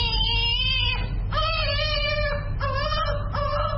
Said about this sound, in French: Bébé de 4 mois pleure en recevant son deuxième vaccin contre la polio à l'hôpital de la Fondation Chantal Biya à Yaoundé, la capitale.